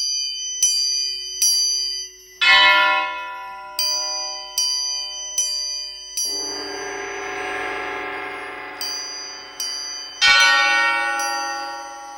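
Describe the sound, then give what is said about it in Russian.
Bells ring in a steady series of bright, metallic strikes, roughly one per second, with a few heavier, louder clangs whose long resonant tones swell and overlap. No voices. “Треугольник закачался, стали бить колокола.”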